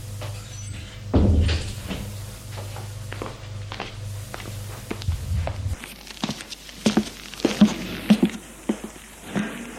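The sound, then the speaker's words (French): A woman opens a door with a clunk over a low hum, then a man walks out, his steady series of footsteps moving away and growing sharper and more uneven toward the end. No one speaks. “Elle ouvre la porte. Et il sort.”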